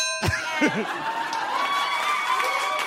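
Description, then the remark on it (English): A single bright ding rings out sharply and hangs as a long, shimmering tone that slowly fades, while murmuring voices and crowd noise carry on underneath. “I think you should only, please only address me in the form of dings and buzzes.”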